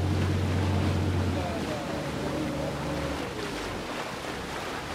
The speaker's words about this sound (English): We took a boat ride out from Bass Harbor to go see one of the operations.